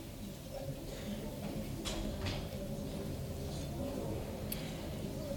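A door is opened for Elijah during a Passover seder, with a few soft clicks and a brief creak over a steady low room rumble, with no one speaking.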